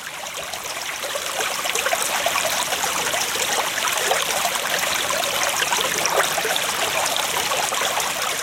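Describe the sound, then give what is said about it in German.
A babbling mountain stream gurgles and splashes steadily over rocks, a continuous bright rush of running water with no voices present. “Habt ihr schon mal einem Bach zugehört? Die erzählen ganz tolle Sachen.”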